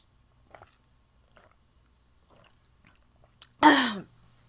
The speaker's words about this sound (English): I don't really know how to handle this right now, so give me about 10 seconds while I chug this glass of whiskey, okay?